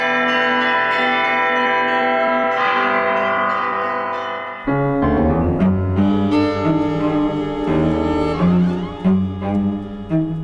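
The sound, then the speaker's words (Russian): Church bells pealing, rung by the bell ringer of the Kolomenskoye museum: several bells layered into a dense, sustained ringing, with a heavy low bell striking midway and quicker overlapping strokes following. No voices. “Александра Жихарева, звонаря музея Коломенское, колокольного мастера, изобретателя, записала Тамара Левенкова.”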